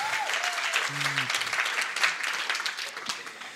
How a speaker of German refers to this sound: Ehrlich gesagt war das ein bisschen lahm. Wenn einer klatscht, klatschen alle, oder?